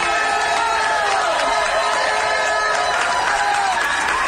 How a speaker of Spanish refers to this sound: pues un aplauso sanitario más en Palma, con sonido de bocinas además. El sonido de las bocinas también, de barcos, de camiones, etcétera. Bueno, y el aplauso de policías locales que se bajan del coche y aplauden a la ciudadanía.